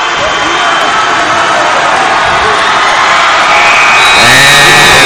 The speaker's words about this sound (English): Buzzer, George Ranch Longhorns 63, and the Summer Creek Bulldogs 50. The Longhorns advance to the regional quarterfinals.